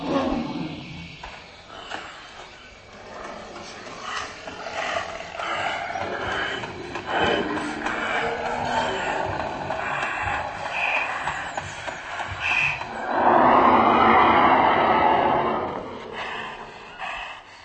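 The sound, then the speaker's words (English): A mammoth roar reconstructed by experts from the National Museum in Prague: a long, loud, rumbling bellow with shifting trumpet-like tones, swelling into a louder, harsher blast near the end before fading. No voices. “What you've just heard is the roar of a mammoth, or at least what experts from the National Museum in Prague think the giant animal might have sounded like.”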